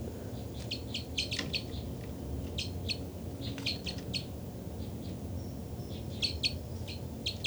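Two birds, numbered 273 and 274, trade bursts of high, rapid chirping calls back and forth, repeated in short clusters over a steady low rumble of background noise.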